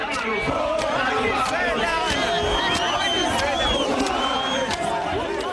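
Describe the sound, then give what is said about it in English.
A large crowd of men in a park in South Africa chants and sings together, "Foreigners, go back home, go back to where you come from," loud, their many overlapping voices forming a continuous rough, agitated roar with occasional sharp shouts throughout; some carry knives and wooden clubs. “They sing, "Foreigners, go back home, go back to where you come from."”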